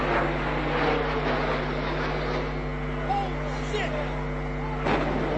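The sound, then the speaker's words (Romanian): A hijacked Boeing 757 passenger jet's loud, steady roar over New York streets at 8:46 am on 11 September 2001, with a sharp impact boom near the end as it strikes the north tower of the World Trade Center, and indistinct voices murmuring beneath. “Dar un zgomot neobișnuit, mai puternic decât toate, i-a făcut pe newyorkezii care se aflau pe străzi la 8 și 46 dimineață pe 11 septembrie 2001 să ridice privirile spre cer.”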